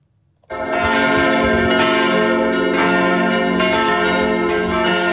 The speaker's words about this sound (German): Klang von schweren Kirchenglocken ist heute die letzte Reise von der ehemaligen Bundesrätin Elisabeth Kopp eingeläutet worden